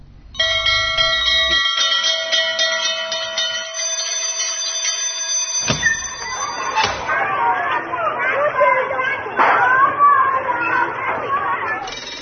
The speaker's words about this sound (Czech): Evo, zvoni za kraj emisije, poštovana deco.